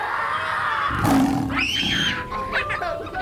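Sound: lion roaring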